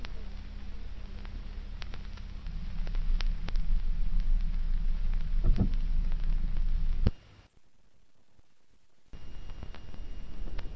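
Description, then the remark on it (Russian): Steady, dense spring rain hisses with scattered crackling drops over a low rumbling undertone like distant thunder; the sound cuts out briefly near the end, then the downpour resumes. “Шли пионеры вчетвером в одно из воскресений, как вдруг вдали ударил гром и хлынул дождь весенний.”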